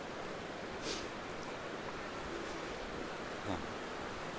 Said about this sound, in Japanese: 流れる小川に、小川から湯気が上がってるの。本当に温泉。硫黄の匂いとかしないんですけどね。